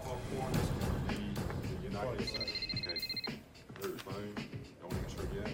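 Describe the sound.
A telephone gives one short, trilling electronic ring lasting about a second, clearly audible over a busy, cluttered background with voices murmuring throughout.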